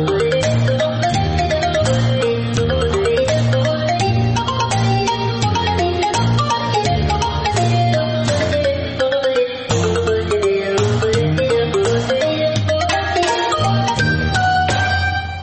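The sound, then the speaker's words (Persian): A mobile phone ringtone plays loudly and without pause: a bright, looping electronic melody over a steady bass and beat, with no voices. “یا بیگه بکش موبایل بکش بکش موبایل”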